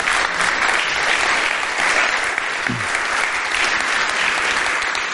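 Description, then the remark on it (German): Sustained applause from an audience for the parents who come regularly, a dense, steady wash of many hands clapping at an even loudness for the full length, with no voices standing out. “Lass uns mal diesen Eltern einen Applaus geben.”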